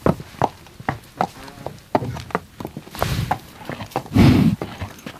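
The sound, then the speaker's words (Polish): A horse, restless because mosquitoes and horseflies are bothering it, stamps its hooves in a string of sharp irregular thuds and scuffs, with a louder rough snort-like burst near the end. No one speaks. “Trochę mu teraz komary i inne gzy przeszkadzają. Dlatego jest trochę niespokojny.”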